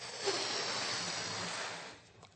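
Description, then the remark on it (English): A single long, steady breath is blown into an elastic balloon that is already full of air, making it expand; a breathy rushing hiss lasts about two seconds before it tapers off. No one speaks. “But if I blow in it again,”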